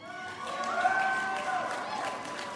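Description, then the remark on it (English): A crowd of youth at a convention who took part in the Youth Slam cheers and whoops steadily, a dense wash of many voices with a few high shouts rising above it, holding at a fairly even loudness throughout. “Can all of the youth who are here at this convention and who participated in the Youth Slam give us a cheer?”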